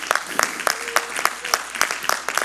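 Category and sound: crowd, audience clapping hands together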